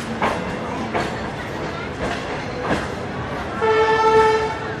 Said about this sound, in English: 10 years ago, trains in China sounded like this.